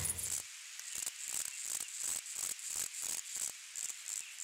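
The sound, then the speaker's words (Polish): A grasshopper stridulates, rubbing comb-like pegs on the inner side of its hind-leg thighs against a vein on its forewings, in a steady series of dry, buzzing rasps, each short burst high-pitched and hissy, repeating rhythmically about every third of a second with no voices. “Smyczek znajduje się na udach tylnych nóg, po wewnętrznych stronach. To takie wyrostki, jakby grzebień albo ząbki piły.”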